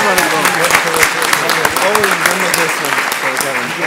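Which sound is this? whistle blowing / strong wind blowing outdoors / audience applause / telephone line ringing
audience applause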